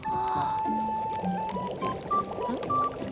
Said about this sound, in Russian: Хочу, как и ты, уметь горячую воду из рук лить. Понятно. В общем, давай покажу. Надо совмещать воду с огнем.